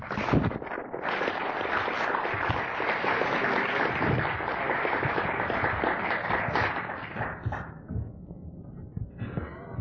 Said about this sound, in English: Round of applause.